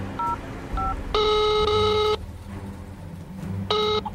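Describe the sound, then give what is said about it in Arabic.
Mobile phone keypad tones: two quick electronic beeps, then a long sustained tone, a pause, and one more shorter tone, fairly loud over a faint low background hum. “اين الجوال؟”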